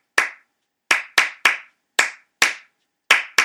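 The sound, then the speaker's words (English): Sharp hand claps, eight in all, recorded in a hot box and layered one over another as 3-2 and 2-3 rhythms, fall in an uneven, syncopated pattern. Each clap is crisp and bright with a quick decay, and no one speaks. “And that was me, you know, in the hot box, just layering claps over one over another and just saying, okay, that's a start to something.”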